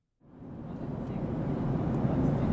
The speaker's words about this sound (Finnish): No niin, kuten taustahuminasta voi kuvitella, niin istun tässä lentokoneessa jossain ehkä Newfoundlandin yläpuolella. Me ollaan matkalla Lontoosta Chicagoon Ignite-tapahtumaan.